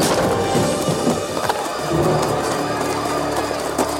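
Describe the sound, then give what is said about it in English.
A wooden front door is smashed open: wood cracks and splinters amid a dense, rumbling crash, with a few sharp thwacks standing out over steady clattering noise; loud, with no voices. “They streamed out just as the front door shattered open.”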